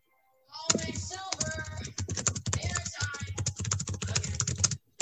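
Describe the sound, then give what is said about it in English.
Rapid, continuous clatter of keys on a computer keyboard, fairly loud, with dense irregular clicks running for several seconds and only brief pauses. “Oh, that's my typing, sorry.”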